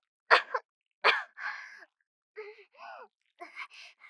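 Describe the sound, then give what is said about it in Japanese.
Two sharp, explosive coughs about a second apart, followed by a run of shorter, raspy, strained coughing and throaty sounds with brief pauses between them. “咳が。”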